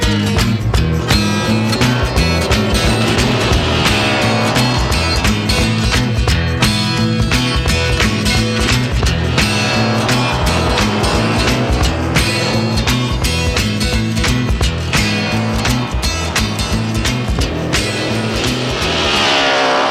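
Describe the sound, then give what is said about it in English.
A pop folk song plays loudly and steadily throughout, with a sung melody over strummed instruments and a regular driving beat filling the whole stretch. “I love that song, man.”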